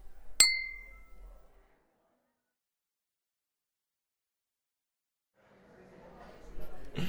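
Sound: glasses clinking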